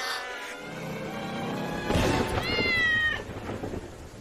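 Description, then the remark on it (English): A cat wearing a collar meows, a few drawn-out, whiny cries, the loudest a wavering meow near the end, set against a low rumbling, noisy background with no talking. “Oh, it's just a cat.”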